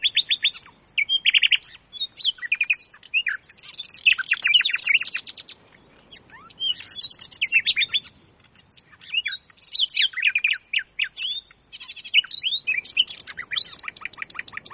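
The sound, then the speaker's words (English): A lively chorus of many birds chirping and singing at once, with overlapping high trills and tweets continuing throughout, bright with no voices. “At last, Joringel heard the melodious chirping and followed the sounds until he found himself in the great hall of the castle.”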